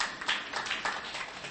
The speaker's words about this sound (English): You can clap if you want to clap.